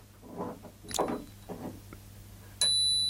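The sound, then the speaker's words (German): A single bright bicycle bell ding rings out sharply near the end and keeps ringing with a clear metallic tone, preceded by soft rustling and handling noises. “Ich benutze die Fahrradklingel, hier haben wir eine.”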